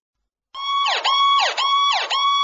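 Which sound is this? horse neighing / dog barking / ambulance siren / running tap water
ambulance siren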